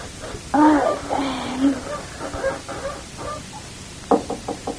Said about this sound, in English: Who's knocking? Who?